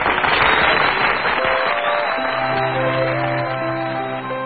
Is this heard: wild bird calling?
no